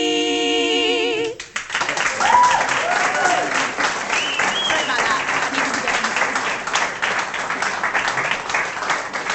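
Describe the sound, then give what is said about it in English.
A held, wavering musical note ends after about a second and a half, then steady applause from a crowd of about 50 people in a room at Bletchley Park takes over: many hands clapping in a loud, dense patter, with a few cheers mixed in. “People were clapping along and bopping along.”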